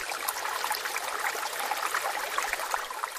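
A recording of a rumbling ocean from a record: ocean water rushes in a steady, dense wash, a continuous hissing roar with no pauses or distinct waves, moderately loud, with no voices present.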